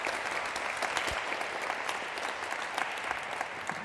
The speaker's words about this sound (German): Und ich bitte euch um einen ganz herzlichen Applaus für Matthias. Viel Spaß!